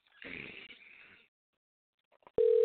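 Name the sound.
phone call ringing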